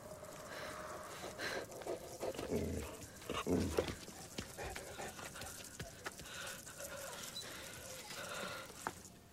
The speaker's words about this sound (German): Okay, das ist ja ein Hund, oder? Ja, und es war nachts auf jeden Fall.